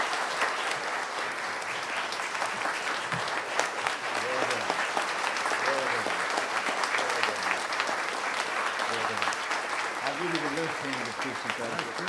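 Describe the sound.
An audience at Flat Springs Baptist Church applauds steadily for the whole stretch, honoring a Minister of Music Emeritus, a dense, even wash of clapping hands with faint voices murmuring underneath.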